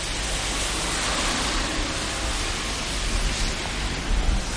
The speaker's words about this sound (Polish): jaki dzień bym sobie w tym tygodniu na podróż do lasu nie wybrała, to i tak lało, padało, kropiło, mrzyło, lało, padało, kropiło i tak w koło Macieju.